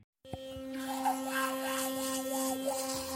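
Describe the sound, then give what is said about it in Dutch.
A Philips Sonicare electric toothbrush hums steadily with a bright, high-pitched motor whine, its tone wavering slightly as it brushes teeth, continuous and fairly loud with no talking. “Zo klinkt tandenpoetsen zoals je gewend bent, maar dan tot 20 keer effectiever.”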